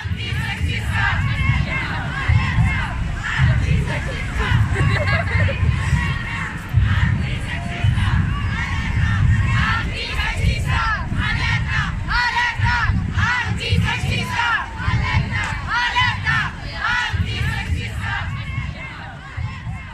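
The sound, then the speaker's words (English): A dense crowd packing a large public square roars without pause, many voices shouting and chanting over one another in a loud, steady wall of sound with brief swells of louder cries. “It's large and it's full of people. In fact, it's packed.”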